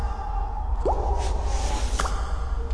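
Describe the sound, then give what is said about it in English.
Two thick drips of blood fall from a knife into a puddle about a second apart, each a short wet falling plop, heard over a steady low rumble with no voices. “the knife dripped down thick blood that produced a dreary plop with every drop that fed the puddle.”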